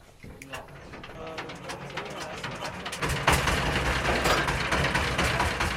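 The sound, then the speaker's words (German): A rattly old diesel engine powers a boat crossing a lake between floating solar panels in China, rumbling steadily and growing louder about halfway through, while pigeons coo and a voice talks over the noise. “Das klapprige Boot wird von einem uralt Dieselmotor angetrieben.”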